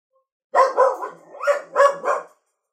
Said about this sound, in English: The dogs are barking. That's Pudge that you can hear. Pudge.